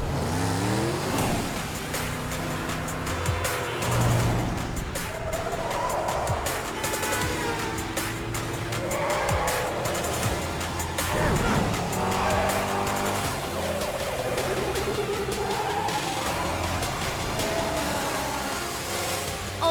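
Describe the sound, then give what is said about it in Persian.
Motorcycle engines roar and whine at high speed, revving up and down continuously through a loud chase, with tire squeals and overlapping engine tones sweeping past. No one speaks. “جدا بشین، ما ترتیب این موتورا رو میدیم.”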